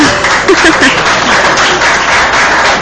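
A crowd applauds steadily, a dense wash of many hands clapping at an even, fairly loud level throughout, with a few indistinct voices briefly rising underneath early on.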